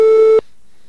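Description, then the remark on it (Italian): A single steady telephone ringing tone of an outgoing phone call sounds loud and clear for a fraction of a second, then cuts off abruptly into silence. “Allora, il grafico dello squillo com'è?”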